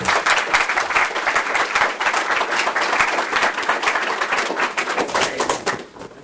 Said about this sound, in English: I know you just applauded, but I want to thank all of our panelists for giving those talks.